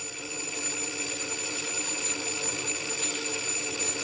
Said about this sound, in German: Es begann damit, dass sämtliche Telefone der Nebensprechanlage plötzlich grundlos gleichzeitig klingelten.